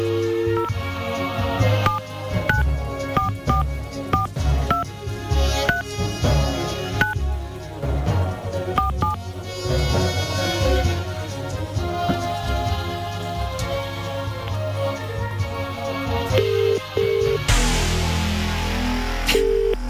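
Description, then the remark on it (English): A run of short electronic keypad beeps as a phone number is dialed, tapped out in quick succession over a steady musical backing. “Let's make our first call this morning, shall we?”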